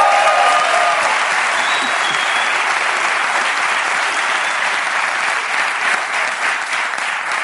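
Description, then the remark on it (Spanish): A crowd applauds steadily and loudly for several seconds, a dense wash of clapping hands that holds at an even level throughout without letting up. “Un aplauso”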